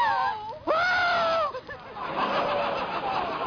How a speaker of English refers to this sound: What are you screaming for? Gee, you scare me, too.